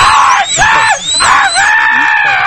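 Several people scream loudly and continuously, high-pitched shrieks rising and falling in long overlapping wails with only brief dips between them, and no talking.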